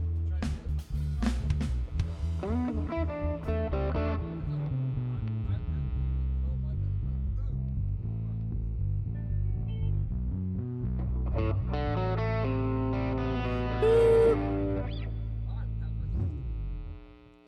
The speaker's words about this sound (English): When he's doing that, whatever effects loop he's got, it's like, bam. You get a concussion. Yeah, I've got to have some distortion for them.